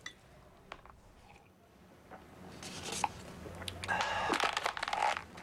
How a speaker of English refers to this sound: He crushes the cup with his hand, then tosses it into the waste paper basket.